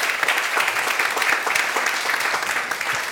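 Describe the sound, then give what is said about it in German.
Steady applause from a group, a dense crackle of many hands clapping at once, sustained at an even loudness for about three seconds with no voices. “Okay, vielen Dank, nicht schlecht ausgerechnet dafür, dass du keine Konkurrenzbeobachtung machst, hat das einen Applaus verdient, weil du hast wirklich schnell und alles konkret getroffen.”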